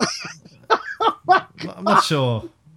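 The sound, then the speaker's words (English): Someone coughs in a string of short, harsh bursts, about five in quick succession, the last one longer and more voiced before trailing off. “Can't do that. Makes me cough now.”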